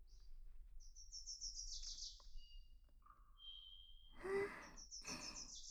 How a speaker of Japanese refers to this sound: 気持ちのいい朝ですね。小鳥のさえずりが聞こえますね。神社では吉報なんですよ。きっといいことがありますね。